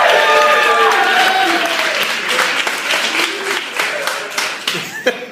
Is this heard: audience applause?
yes